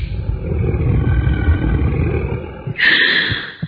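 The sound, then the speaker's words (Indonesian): Very heavy, deep breathing with a low, rasping, growl-like rumble: one long drawn-out breath followed by a shorter, sharper, hissing breath near the end. No one speaks. “terdengar suara hembusan nafas sangat berat.”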